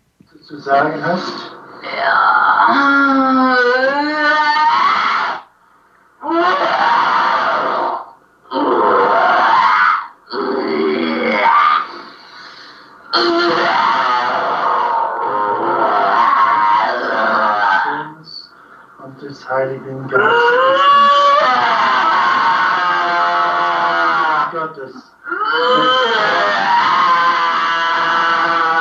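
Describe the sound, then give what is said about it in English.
A loud, strained voice screams and groans in long anguished bursts separated by brief pauses, the pitch rising and wavering, with a recorded quality throughout. It comes from a recorded exorcism in which a priest forces the spirit to say the Hail Mary. “Well, that's probably enough of demonic screaming for the moment.”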